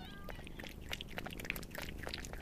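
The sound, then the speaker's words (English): Two cats and four hungry kittens: a short high meow at the start, then a steady stream of busy smacking and clicking noises like hungry animals eating, with no one speaking. “A hungry visitor is a cat. Two cats with one, two, three, four hungry kittens.”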